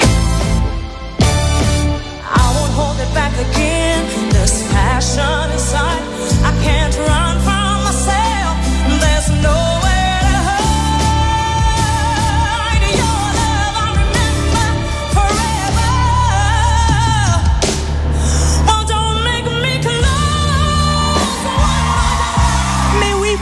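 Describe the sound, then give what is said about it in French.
A powerful female vocalist sings a soaring ballad-style song from a tribute concert touring France, over a full band backing, loud and continuous throughout, with sustained belted notes rising above the instruments. “Écoutez sa voix.”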